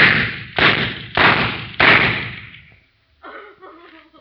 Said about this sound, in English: He shot through the door.